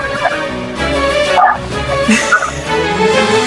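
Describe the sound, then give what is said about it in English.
A dog barks repeatedly in a series of loud woofs mixed with whimpering yips, continuing steadily throughout with no pauses of silence. “Dogs barking, babies crying.”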